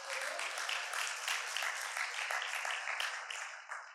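Steady crowd applause, a big round of applause for a woman, many hands clapping in a dense, crackling wash that holds strong throughout and eases slightly at the end, with no voices.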